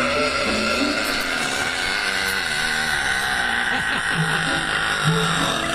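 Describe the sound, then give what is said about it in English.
A woman's long, loud, rasping record-attempt burp holds steady for several seconds, a rough buzzing drone with a gravelly low rumble that never drops off. “Is this the actual burp coming up? Is this the record breaker?”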